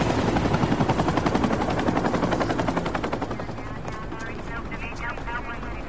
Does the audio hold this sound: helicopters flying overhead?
yes